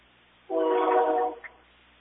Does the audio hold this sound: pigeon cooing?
no